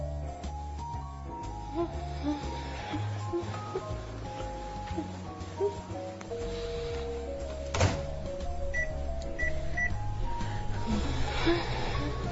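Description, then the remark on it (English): A microwave oven heating lunch hums steadily, its low drone running throughout, with a single solid clunk from the door partway through and a few faint high beeps near the end. “I'm heating my lunch in the microwave.”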